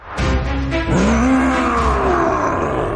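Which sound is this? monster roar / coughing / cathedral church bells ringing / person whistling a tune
monster roar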